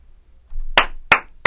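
Three sharp hand claps ring out alone at a steady, slightly quickening pace, each one crisp, with a faint low rumble in the background.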